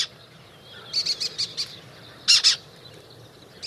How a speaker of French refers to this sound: Bon, je vous l'accorde, Clotilde, c'est pas aussi mélodieux que le rouge-gorge. C'est le faucon cresserellette, un tout petit rapace qui vient de mettre à l'arrêt un grand parc d'éoliennes dans le sud de la France